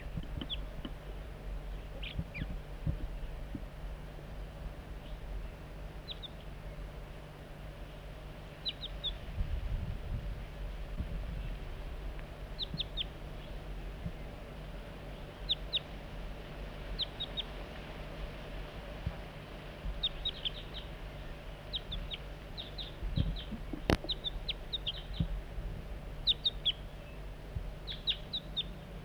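juvenile crossbill calls

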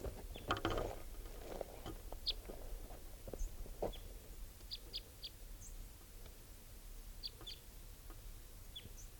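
type 3 bird calling

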